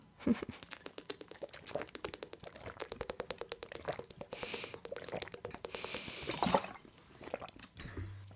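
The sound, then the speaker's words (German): Someone drinks from a water bottle, with a long run of rapid, rhythmic glugging and sloshing that goes on for several seconds before a short pause. “So, Prost alle. Gut, trink.”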